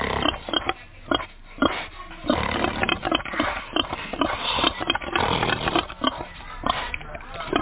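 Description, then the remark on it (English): Rough snorts and snuffling sniffs from a pig come in quick irregular bursts, a steady stream of grunty, breathy noise with brief pauses between flurries. “Who would have thought I know how to speak pig?”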